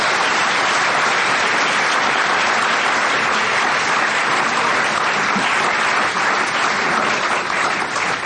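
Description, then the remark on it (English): Sustained, loud applause from a large audience, a dense wash of many hands clapping steadily with no break for the full eight seconds, and no one speaking over it. “So let's give a big round of applause to Joshua Adelin.”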